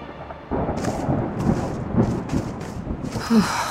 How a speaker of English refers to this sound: Storm coming. Good. It'll cover our tracks.